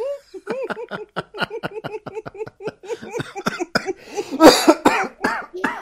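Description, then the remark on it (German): A man coughs in a long, rapid fit after choking, around twenty harsh hacking bursts in quick succession, growing louder and more strained toward the end, with no talking. “Gott, nicht husten, nicht husten. Alles gut?”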